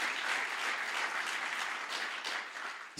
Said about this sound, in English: Someone clap for Jesus. Zaklaszmy Jezusowi.